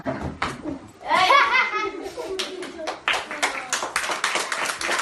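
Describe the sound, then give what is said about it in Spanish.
A group of children in a fourth-grade class clapping in quick, uneven bursts, with excited kids' voices and cheering mixed in, as classmates applaud a soldier father back from a mission in Mali who surprises his nine-year-old son in class. “Le abrazaba con fuerza mientras los compañeros aplaudían casi tan emocionados como él.”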